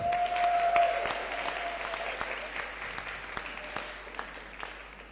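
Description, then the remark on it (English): An audience claps steadily for several seconds, applauding a doctor, the applause starting strong and slowly thinning out. A brief high whistle-like tone rings over the first second. “And he drove the show bus when needed, and that's, let's give a hand for the doctor,”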